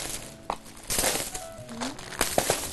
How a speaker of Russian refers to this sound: Продуктовый набор у нас входит: пачка чая, лапша, гречка, рис, печенье, сахар, мука, манная крупа, консерва, рыба и тушенка, и масло. Теперь мы берем пакет наш фирменный и все вот это складываем туда, вот так вот.